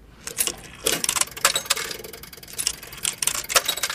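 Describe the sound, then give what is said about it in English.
Coins drop one after another into a pay telephone to call the depot, a series of sharp metallic clicks and clinks with small rattles between them, without any talking. “Now put these coins in.”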